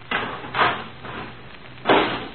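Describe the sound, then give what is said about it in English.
A garbage can lid being fitted on, three scraping, clattering bursts, two in quick succession and a third after a short pause, with no talking. “Okay, put the lid on.”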